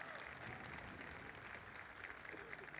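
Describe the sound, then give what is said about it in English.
A crowd claps steadily for the people who decorated and prepared the event, a dense, even wash of applause that holds at a constant level for a few seconds without pause. “Yeah, you can applaud them.”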